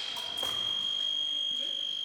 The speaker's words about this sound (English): In this type of fencing, the weapon is an épée. Vincenti and Speer go back and forth, taking turns striking each other. When Vincenti touches Speer with her épée, she earns a point and a buzzer sounds.